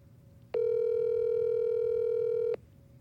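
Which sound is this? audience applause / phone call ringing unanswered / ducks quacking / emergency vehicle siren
phone call ringing unanswered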